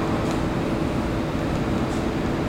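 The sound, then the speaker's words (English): A steady, heavy rumble of a train going by, loud and constant throughout, with deep low-end roar and a broad hiss on top and no voices. “I mean, I got a train. Like, it won't take long.”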